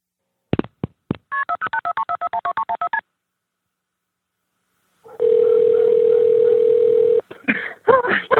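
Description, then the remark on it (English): A rapid string of about a dozen touch-tone keypad beeps as a 911 call is dialed from the scene of a fatal shooting at a family home, then a pause, a steady ringing tone, and a few clicks as the line connects to Hampton County 911. “So remember, right when you hear those phone tones, it's rolling.”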